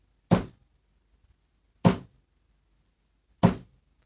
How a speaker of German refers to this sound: Da klopfte es schon wieder.